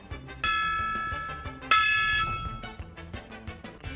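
A gong is struck twice as the radio segment sound for the "Lemmings Gong", the second hit louder, each leaving a bright, shimmering metallic ring that decays slowly; no voices are present.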